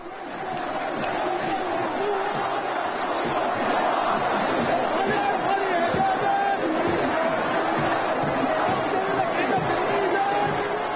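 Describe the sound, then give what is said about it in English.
A large, angry crowd shouts and chants outdoors in Tahrir Square in Cairo, protesting that President Mubarak will not step down; a dense roar of many voices stays loud and steady throughout, with occasional sharper cries rising above the din. “Angry crowds protesting in Tahrir Square in Cairo.”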